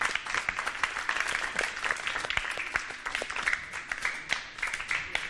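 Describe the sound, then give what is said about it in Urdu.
A loud, sustained burst of audience applause after a contestant chooses a glass, dense overlapping claps filling the whole stretch with a steady bright texture and no speech. “ٹھیک ہے, ان کا انتخاب بھی یہی گلاس ہے, زوردار تالیاں.”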